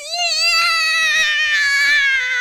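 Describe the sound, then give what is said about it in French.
A baby wails in one long, shrill, sustained cry that stays loud throughout, its pitch drifting slightly downward, with no talking over it. “Et le cri strident des bébés des autres.”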